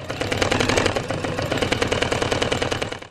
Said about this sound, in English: Sounds of the sewing machine.